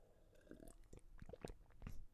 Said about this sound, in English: Let me take a sip, guys. Hold on.